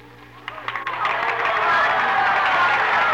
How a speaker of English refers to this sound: Anyway, in my dream, I heard cheering and applause in the distance. The mist suddenly disappeared, and I was standing on a huge stage. I had just made a speech. The cheers and applause were all for me. I was the center of attraction.